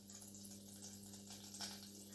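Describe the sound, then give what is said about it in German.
Butter browning in a pan as the sugar in the butter caramelizes, a soft, steady sizzle with fine crackling pops and gentle bubbling over a low constant hum, fairly quiet, with no talking. “Genau, das prickelt so schön blubbert.”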